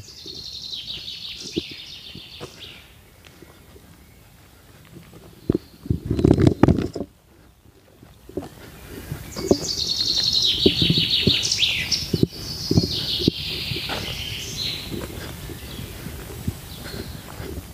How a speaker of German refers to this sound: Das klingt eigentlich so gut, dieses Vogelgezwitscher.